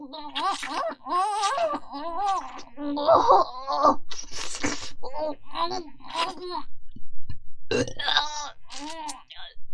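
A series of loud, close burps, drawn-out and groaning, coming one after another with short pauses between them and no clear words spoken.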